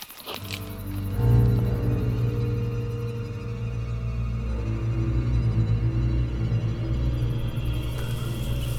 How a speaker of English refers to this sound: The Dark Tome is starting to hum. Can't you hear it hum? It's responding to the rift in the floodgate.